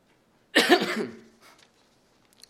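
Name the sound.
cough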